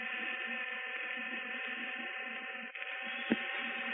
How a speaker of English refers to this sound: All right, we're just about ready to get underway. And now the machinery begins to hum. In a moment, the centrifuge should start whirling around in its giant circle.